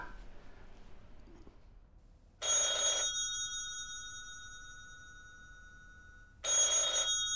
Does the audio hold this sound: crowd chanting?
no